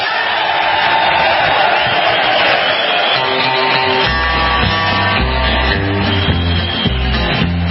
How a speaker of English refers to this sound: Like actually introducing himself of who he is and listen to the crowd go crazy over this.